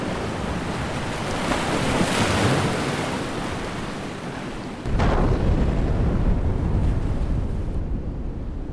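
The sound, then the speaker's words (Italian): Heavy seawater rushes and churns continuously, flooding into a sinking Swedish merchant ship after two explosions tore large holes in both its sides in the Sea of Bothnia, with a brief swell early on and a sudden louder surge midway that keeps roaring to the end. “Dopo pochi minuti, due esplosioni in entrambe le fiancate del mercantile svedese aprono dei grandi squarci ed il mare inizia a riempire la nave.”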